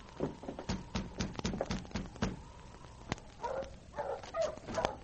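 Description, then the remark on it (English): A series of sharp taps and thuds, like hurried footsteps, gives way to a few short, mid-pitched barks in quick bursts over the last couple of seconds from a dog named King at a cabin door. “The dog stays outside.”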